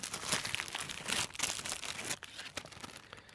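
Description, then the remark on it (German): Continuous crinkling and rustling of plastic packaging as someone rummages through a black bag, with irregular crackly bursts and brief pauses, fairly loud and with no talking. “Deswegen ist für mich das total easy, egal was jetzt aus dieser schwarzen Tasche herauskommt, das kann, egal was es ist, das abzulehnen.”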